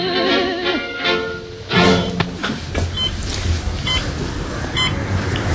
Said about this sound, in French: Qu'est-ce que c'est ce bip-bip? C'est le James. Et qu'est-ce que c'est le James? C'est ce qui me permet d'avoir de la musique, d'avoir de la télé, vidéo, chaîne-fi. Et comment tu contrôles ça avec... Avec la tête.